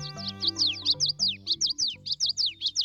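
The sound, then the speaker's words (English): Birdsong: a fast series of bright, high chirps repeating in a steady rhythm, with a soft low tonal hum running beneath the song. “Late spring and early summer are the peak of birdsong.”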